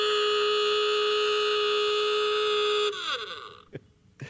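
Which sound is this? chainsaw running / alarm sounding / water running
alarm sounding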